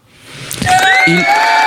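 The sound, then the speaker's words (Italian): A burst of clapping swells up within a second and stays dense and fairly loud, with a few sustained whistle-like tones ringing over it. “Già applaudiamo prima ancora di sentirla, vai.”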